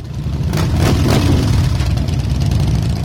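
A loud 2010 Harley-Davidson Street Glide motorcycle engine rumbles steadily at idle, with a couple of quick throttle revs swelling early on before it settles back into a deep, throbbing idle.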